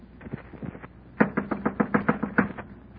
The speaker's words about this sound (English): I clenched my teeth and my knuckles and knocked on the door.